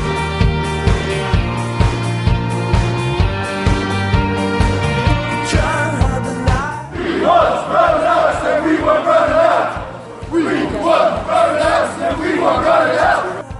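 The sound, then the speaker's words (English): A band with steady drum hits plays for several seconds, then a large crowd of supporters on a march takes over with loud, rhythmic chanting in two sustained bursts over a drumbeat. “Right then, next off is the march.”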